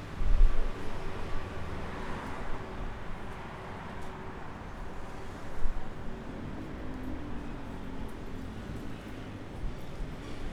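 Steady outdoor city street ambience in front of the Esquirol metro station, in a busy shopping district, with a continuous low rumble of traffic and wind-like noise, a couple of brief louder thumps, and no clear voices.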